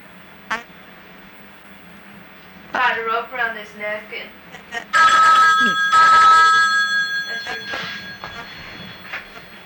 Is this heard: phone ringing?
yes